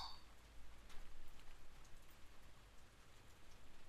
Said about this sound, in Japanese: ああ、雨止まないか。